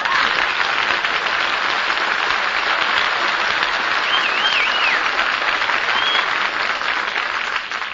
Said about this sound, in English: All that applause for me. Oh, I feel so wanted.